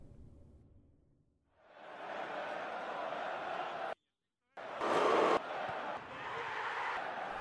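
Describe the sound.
A simulated stadium crowd roar swells in, cuts out abruptly for about half a second due to technical difficulties, then bursts back louder and settles into a steady, dense clamor of many voices.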